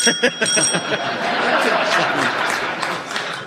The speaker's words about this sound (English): Kit, your buzzer went first.